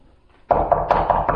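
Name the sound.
knocking on a door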